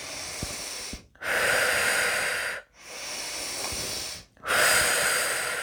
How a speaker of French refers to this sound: Et doucement, nous nous préparons à reprendre le fil de notre journée. Nous pouvons prendre quelques grandes inspirations, un peu plus toniques.